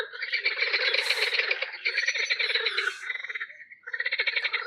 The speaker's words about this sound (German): es kam halt wirklich immer wieder Frösche, die hier reinrufen und uns bei der Aufnahme.